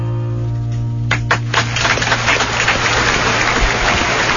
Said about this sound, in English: Why are you clapping?